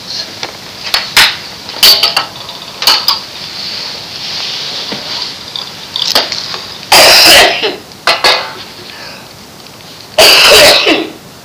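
Repeated coughs and throat clearing close to the mic, scattered irregularly with a few louder, longer hacking bursts between short sharp ones.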